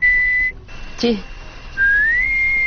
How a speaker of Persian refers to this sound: چرا هیچ سوت میزنه؟ این چیه بابا؟